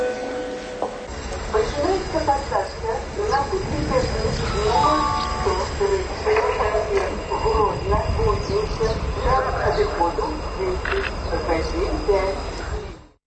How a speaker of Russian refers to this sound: А тым часам абвяшчаюць пасадку на цягнік да кузніцы. Бачу, што ў вагонах сёння будзе шмат вольнага месца.